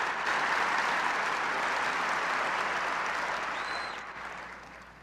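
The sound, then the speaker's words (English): An audience at Purdue University applauds the introduction of Jimmy Carter before his speech, a dense wash of clapping that holds strong for about four seconds before beginning to taper off. No voices stand out above the clapping. “Well, first of all, let me say that I appreciate very much the nice introduction, which got probably more applause than I'm going to get in my speech.”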